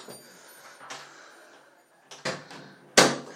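A bathroom door is pushed shut: a few soft handling rattles and shuffles, then a sharp, solid latch-click thud near the end, in a quiet, not very big bathroom with a sink, shower and toilet.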